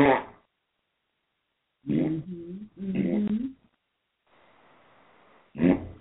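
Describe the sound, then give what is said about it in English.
Wet, sputtering mouth-made fart noises come in several short bursts separated by pauses, fairly loud and buzzy, with a faint breathy hiss between the last two. “Hey, start farting out your face. Face farter.”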